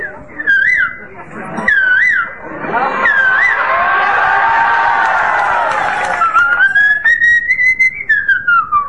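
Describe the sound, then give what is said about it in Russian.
Someone whistles short, repeated two-note figures mimicking a cuckoo's call, then a burst of noisy voices and commotion covers it, followed by a longer, sliding whistled tone near the end. “А другие начинали петь как кукушки.”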